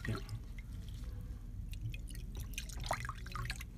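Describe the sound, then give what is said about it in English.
A little water is poured in, trickling and dripping into a container with a steady low splashing, scattered bright drops and small plinks, continuing throughout without speech. “Okay, so just a little bit of water.”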